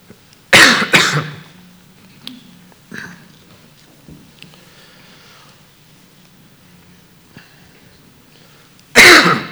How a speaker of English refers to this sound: A scratch in my throat. So if I start coughing,